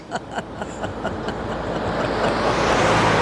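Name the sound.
truck driving past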